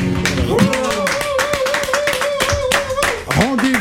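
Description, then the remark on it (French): A crowd applauds steadily, a dense patter of many hands clapping throughout, loud and continuous, while voices cheer and call out over it, one holding a long sustained note. “On applaudit.”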